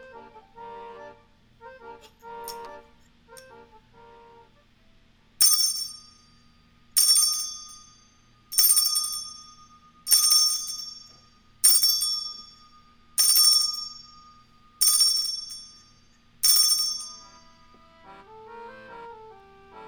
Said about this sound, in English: So, Big Al, you are up with the chime.